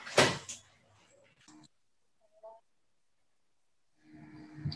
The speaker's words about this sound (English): 1 second, I'm just going to get this, open this door.